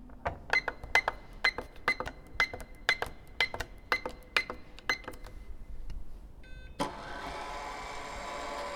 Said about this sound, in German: hier ist ein Zahlenschloss, wo ich einen Code eingeben muss und das werde ich jetzt auch direkt mal machen.